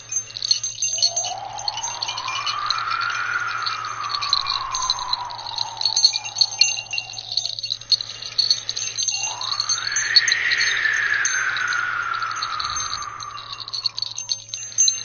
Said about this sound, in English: So this tinkly sound of the bells is like a comforting sound.